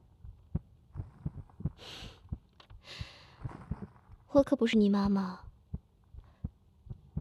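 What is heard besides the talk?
human heartbeat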